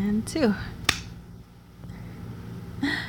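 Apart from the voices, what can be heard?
hand claps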